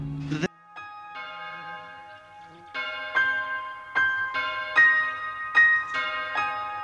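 A bell tolls repeatedly, each resonant strike ringing on and overlapping the next in a slow, steady rhythm, moderately loud, with no one speaking.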